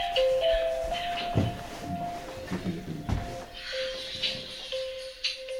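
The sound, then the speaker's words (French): A phone rings with an incoming call from the publisher, a steady electronic tone that alternates between two close pitches throughout, over faint shuffling and a few soft knocks. “C'est l'éditeur qui appelait.”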